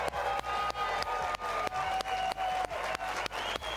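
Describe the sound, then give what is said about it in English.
A studio crowd in Studio C of the BYU Broadcasting Building on the BYU campus in Provo, Utah, cheers and applauds steadily for a weekly BYU men's basketball show, with dense overlapping claps, sharper rhythmic claps cutting through, and a few whistle-like shouts rising above the roar. No one speaks. “Yes, what a night, what a crowd.”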